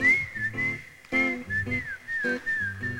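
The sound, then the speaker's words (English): Someone whistles a bright, wavering tune, the pitch sliding and dipping between notes, carried over a steady rhythmic instrumental backing with punchy chords. “Whistle with me.”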